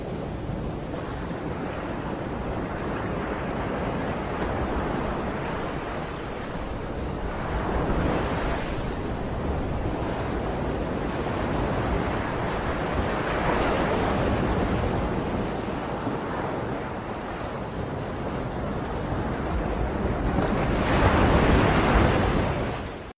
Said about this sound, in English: Water's not. It's part of the orchestra. And it's certainly not animal, but it was just so wonderful just to hear the crashing waves.